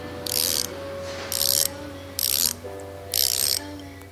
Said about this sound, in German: Man hört, wie sich die Windräder nach dem Wind ausrichten, aber nur, wenn man ganz nah steht. Ansonsten ist es ruhig an diesem sonnigen Frühlingstag.